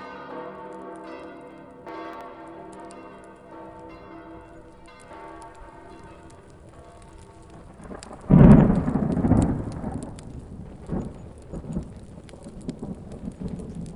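Heavy rain pours steadily in Naples during a strong thunderstorm on 17 April 2012, while a deep crash of thunder bursts in midway and rumbles on loudly, with a faint ringing bell-like tone lingering in the background beforehand.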